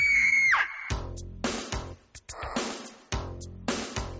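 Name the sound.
scream sound effect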